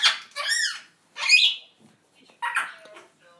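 A pet parrot lets out a series of harsh, raspy squawks, about four loud bursts with short pauses between them, with no talking.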